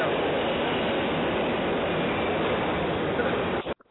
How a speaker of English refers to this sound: That sound right there? Yeah. That's our congratulations. That's the sound of the subway.